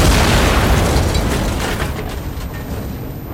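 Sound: car bomb explosion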